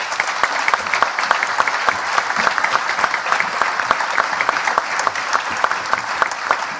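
Steady, sustained applause from an audience, many hands clapping in a dense, continuous patter at an even loudness throughout, with no voices standing out.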